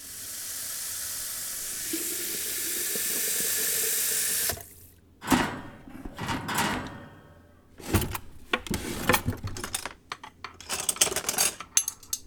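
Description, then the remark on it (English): A tap runs steadily for a few seconds as water fills a kettle, then stops, followed by clinks and clatters of the kettle being handled and set down. “Come sit while I puts the kettle on the boil.”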